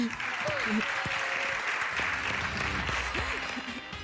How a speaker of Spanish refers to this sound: Aplausos también para los jugadores de la selección española de waterpolo que ayer ganaron el campeonato del mundo.